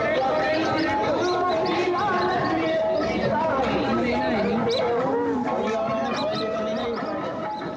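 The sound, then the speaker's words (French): Evening crowd chatter at the Bogal market, busier than usual: a dense, continuous babble of many overlapping voices at a steady, fairly loud level, with no single speaker standing out, fading slightly toward the end. “Ce soir, le marché était bien plus animé que d'habitude.”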